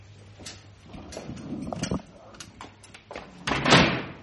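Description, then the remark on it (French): Doors being closed: a string of latch clicks and knocks, building to a heavier, louder shut near the end, with faint voices in the background. “Est-ce que vous avez le sentiment, quand je vous entends déambuler, rien qu'au son, fermer les portes, refaire le chemin parcouru, est-ce que vous avez l'impression que vous êtes un propriétaire terrien ?”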